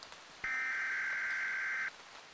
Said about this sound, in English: I was focused on the map and my compass, so when that weather alert buzz screeched again, I was startled.